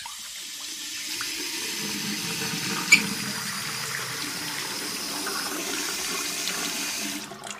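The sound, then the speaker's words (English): Water pours steadily from a single communal tap shared by 55 families in Cape Town, a continuous rush for several seconds, with a brief clink partway through and no voices. “55 families share a single tap.”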